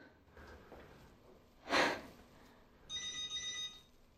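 A brief breathy snort, then a telephone rings with a bright, trilling electronic tone lasting about a second.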